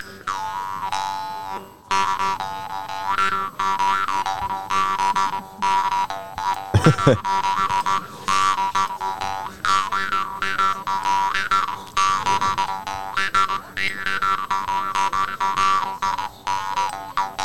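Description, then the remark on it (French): A jaw harp plays a continuous buzzing twang, with dense harmonic overtones sliding up and down in a pulsing, rhythmic pattern for the whole stretch, loud and with no talking over it. “Donc, la guimbarde, juste pour info, voilà.”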